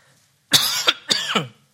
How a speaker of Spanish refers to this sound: Ay, perdón, hermanos, me dio la tos.